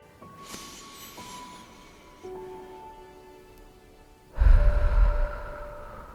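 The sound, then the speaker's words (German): A deep, quiet inhale through the nose into the lower belly is followed by a long, loud, breathy exhale through the mouth, with soft sustained musical tones humming in the background. “Und einfach tief durch die Nase einatmen und durch den Mund aus.”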